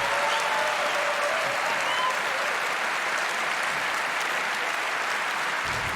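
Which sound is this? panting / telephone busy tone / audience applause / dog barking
audience applause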